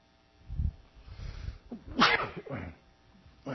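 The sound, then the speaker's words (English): A preacher sneezes sharply and loudly while preaching, after a short breathy intake, followed by a softer second burst; no one talks. “I'm not sure I've ever sneezed while I've been preaching, but that's two in one.”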